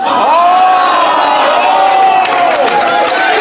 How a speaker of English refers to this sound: Skylights gets a cheer! I win!